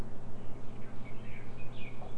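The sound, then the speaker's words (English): Faint, high bird chirps come through intermittently, set against a steady low hum of background noise; no one speaks. “Yeah, I hear those birds.”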